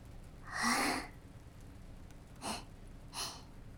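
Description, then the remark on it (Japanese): A big, breathy yawn drawn in over about half a second, followed by two short, softer puffs of breath. No one speaks, and it is quiet around it. “白金が真面目なお話をしてるのに、大あくびなんて。”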